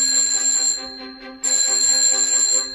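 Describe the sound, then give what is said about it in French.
A telephone rings in the office of the president of the world, from the children's book Le Président du Monde, in two long, bright, trilling bursts separated by a brief pause, loud and steady with no voices present. “Le téléphone ne cesse de sonner dans le bureau du président du monde.”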